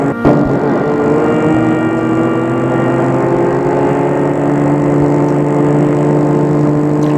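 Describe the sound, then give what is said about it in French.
A car engine hums steadily as the car drives slowly up to a large, rusty gate of an estate in the woods and stops there; its tone holds fairly even throughout, with no voices present. “Elle va arrêter la voiture devant le portail, un grand portail rouillé pour appuyer à l'interphone, tout en restant dans la voiture.”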